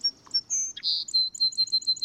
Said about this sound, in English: You associate most birds' songs with spring and early summer if you live in a temperate climate.